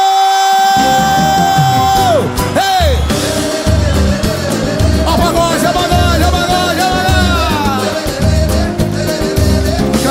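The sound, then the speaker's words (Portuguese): A large crowd shouts and cheers loudly and continuously in answer to a call for single people to shout, with band music playing underneath, as if at a live concert. “Quem tá solteiro dá um grito!”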